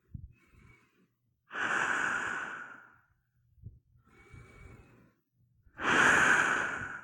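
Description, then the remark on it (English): Two loud, long breaths drawn in through a gas mask with no filter fitted, each with a slight whistling tone, separated by a softer exhale. Nobody speaks. “When I take a big, deep breath, you can hear.”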